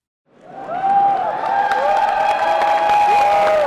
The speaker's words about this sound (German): Jubel und Erleichterung bei den Anhängern von Burkhard Jung. Der 61-jährige Sozialdemokrat erreicht im zweiten Wahlgang 49,1% der Stimmen und wird erneut zum Leipziger Oberbürgermeister gewählt.